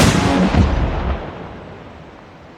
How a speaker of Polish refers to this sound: Z hukiem przyjął kulkę jak ulgę.